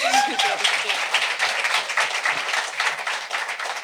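An audience applauds with dense, steady clapping that keeps up for about four seconds, fairly loud throughout, with a brief vocal cry near the start.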